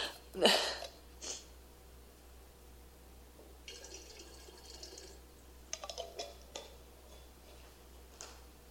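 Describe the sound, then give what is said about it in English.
Water is poured quietly in a short, steady trickle, framed by a few sharp splashes or drips before and after. It sounds close but faint, with no one talking. “So this is healing water.”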